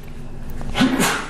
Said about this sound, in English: Bless you.